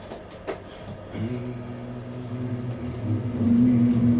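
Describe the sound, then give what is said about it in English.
An audience hums together as accompaniment to a poem called Jamil, in a low, steady drone that begins after a second of murmur, holding one sustained pitch and swelling louder toward the end. “So what, if you'll indulge me, if you help, all I need you to do is very simple. Is just hum.”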